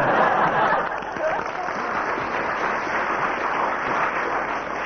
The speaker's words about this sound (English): First applause from the audience, so that has 3 marks.